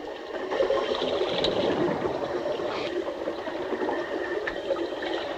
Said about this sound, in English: Bubbles stream from the sheathed wire tip as the two frogmen help Lawrence up from the seabed and swim away